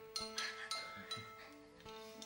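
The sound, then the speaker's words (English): A drinking glass is tapped several times at an uneven pace, each light clink leaving a sustained ringing tone. The taps are soft, with no talking. “Trying to tune their glass, or it's one of his subtle hints that his glass is nearly empty.”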